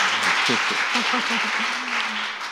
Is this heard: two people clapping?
yes